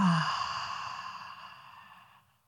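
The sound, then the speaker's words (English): A long, deep exhale voiced as a breathy "haaa" during a guided breathing exercise, starting fairly strong and slowly fading out over about two seconds, with no other sounds. “And as you exhale, make it an H-A sound.”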